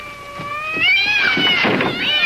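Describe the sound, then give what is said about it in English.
Two cats, Buff and Tabby, yowling and screeching, drawn-out wavering cries that climb in pitch and grow louder, with harsh noisy squalls breaking in over the last second or so. “For goodness sake, Lucy, you better do something about those cats. Sounds like somebody put a hex on them.”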